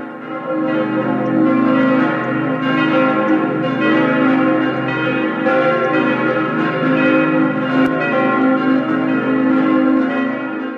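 A church bell rings steadily and loudly at noon, its deep tolling strokes overlapping into a continuous, resonant wash of ringing tones with no voices.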